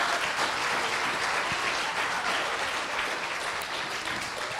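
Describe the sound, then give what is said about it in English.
A church audience applauds God for his goodness, a dense wash of many hands clapping at an even level for several seconds with no voices rising above it. “Can we give God just a round of applause for his goodness?”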